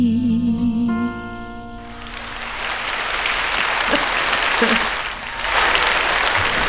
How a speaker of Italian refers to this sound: Applausone in diretta. Grazie.